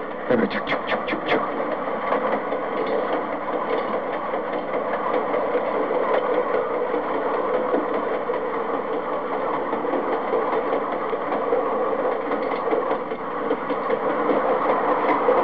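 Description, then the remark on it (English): A freight train rumbles steadily past a grade crossing, a continuous dense roar of wheels and engine with a few sharp clanks near the start, loud and unbroken throughout. “This is the sound of a train passing a grade crossing.”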